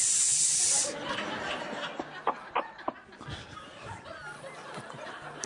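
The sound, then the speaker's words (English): A person gives a loud, sharp hiss lasting just under a second as their answer to a quiz question, then it gives way to scattered soft clicks and faint breathy chuckling sounds. “Or C, hiss.”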